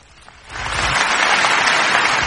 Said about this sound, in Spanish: ¡Ya! ¡Dejen de aplaudir! No, otra vez, aplaudan de nuevo.